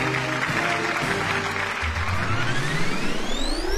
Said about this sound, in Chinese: 下面我宣布投票结果，经过计算，正式确定北京官话为全国标准语的基础方言，大家热烈鼓掌。